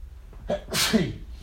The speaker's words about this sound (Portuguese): Peraí que eu vou espirrar.